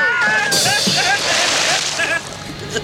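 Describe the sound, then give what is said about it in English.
A loud, sudden splash as Mrs. Thatcher falls off a boat into the water, followed by a second or so of rushing, sloshing water, with excited voices crying out over it. “Thatcher's fallen off the boat, Senator Kennedy.”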